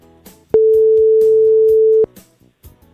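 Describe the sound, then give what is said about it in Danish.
A telephone ringback tone sounds while a call is placed: one loud, steady electronic beep lasting about a second and a half, with faint background sounds around it. “Vi prøver lige at ringe op til Dennis.”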